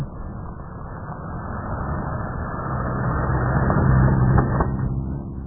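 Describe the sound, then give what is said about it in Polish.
A car engine rumbles steadily, swelling gradually louder as the vehicle approaches and passes by, with low-pitched road noise and no voices. “No właśnie jedzie samochód, bo samolot będzie niedługo lądował.”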